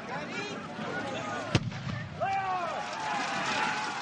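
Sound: cannon blast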